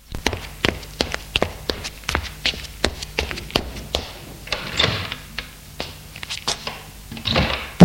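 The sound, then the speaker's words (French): At night, footsteps thud up a wooden staircase in a steady rhythm, followed by the creak and knock of a door being opened upstairs, with no voices. “Nuit, j'étais réveillé par des pas. On montait les escaliers.”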